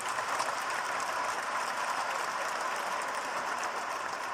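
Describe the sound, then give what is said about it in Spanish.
Steady audience applause for two people being thanked at an export sector event fills the whole stretch, a dense, even patter of many hands clapping at a constant level with no voices rising above it. “Así que les pido un aplauso para ellos dos.”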